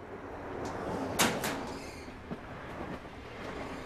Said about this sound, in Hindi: आते हुए दरवाजा बंद कर लेना।